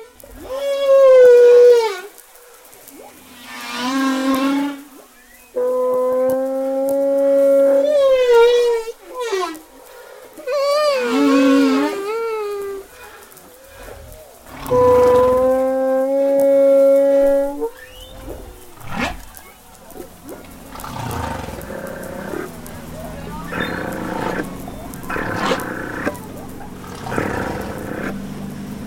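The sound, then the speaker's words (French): A human voice imitates humpback whale song, loud: long wavering moans and swooping glides rising and falling in several drawn-out phrases, then trailing off into softer, breathier murmurs. “Alors, baleine à bosse, top.”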